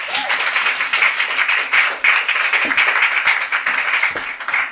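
Steady applause from an audience fills the room, a dense wash of many hands clapping at once, sustained and fairly loud throughout with no voices standing out.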